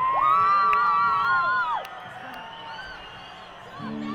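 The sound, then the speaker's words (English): A large concert audience cheers loudly, with one long, high whoop riding over the roar for about a second and a half before the noise settles into a steady, quieter din. “It's obvious that every person in this audience is an individual and has their own choice and can do whatever the fuck they want.”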